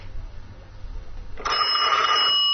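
After a stretch of low background rumble, a telephone rings, a single loud, bright trilling ring lasting about a second that rises clearly above the noise, with no talking.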